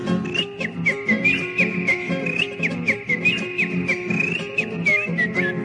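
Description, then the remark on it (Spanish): Someone whistles an imitation of a canary's song, a continuous run of bright warbling trills and quick chirps, clear, over a steady rhythmic instrumental accompaniment. “Un tordo parece un fraile que está leyendo un rosario, saltando en la misma jaula, así cantaba un canario.”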